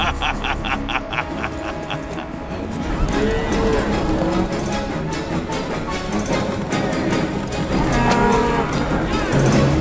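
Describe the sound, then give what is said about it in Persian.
Several cows moo repeatedly amid a noisy herd being driven toward a dock to board a ship, their low calls overlapping against a steady rumble of movement and background commotion, with occasional voices mixed in. “ببرشون سمت اسکله، من نمیذارم گاوای کارنی بره تو کشتی”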